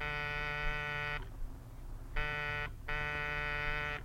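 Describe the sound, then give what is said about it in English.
A front door buzzer sounds three times in a steady, harsh electric drone: one long buzz, a short one, then another long one, loud, with brief quiet gaps between them, as visitors ring at the front door. “Buzz the buzzer.”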